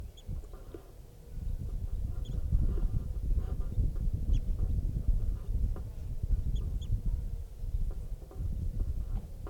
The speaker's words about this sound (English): Wild bird.